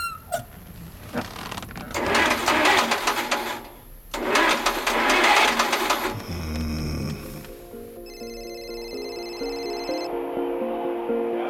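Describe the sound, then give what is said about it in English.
An engine cranks over in two loud, rhythmic churning bursts, stopping briefly between attempts, then gives way to a steadier whining, humming tone without catching cleanly. “If you can get this engine to start, then we celebrate by going to a horse race.”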